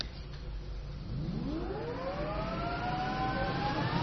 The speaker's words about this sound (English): Here we go. Let's switch on a jet engine.